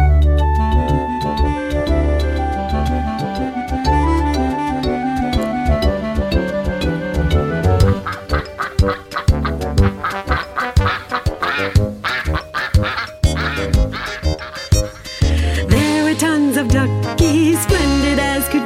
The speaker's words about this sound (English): Then before you knew it, there were duckies everywhere, dressed up in their best and finest outerwear, quacking up and down the streets and every part of town.